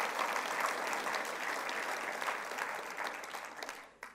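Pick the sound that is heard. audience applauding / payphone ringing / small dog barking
audience applauding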